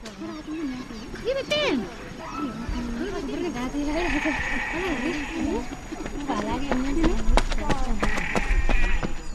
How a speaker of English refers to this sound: Goats graze on the infield of Kamarni Showgrounds in E10, Kenya, elevation 8,000 feet.